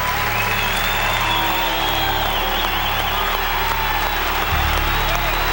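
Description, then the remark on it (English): Sustained crowd applause and cheering for golfer John Daly at the 72nd hole of a golf tournament, a dense, steady roar of clapping and shouts that continues loudly and unbroken throughout, with no pause or fade. “Now listen, the applause won't stop.”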